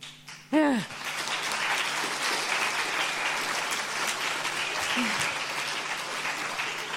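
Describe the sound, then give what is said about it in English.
An audience claps steadily and loudly for about six seconds for the runner-up of a poster award, after a brief vocal whoop at the start, with another short falling cry partway through the applause. “The one I read out was the runner-up and also deserves a round of applause.”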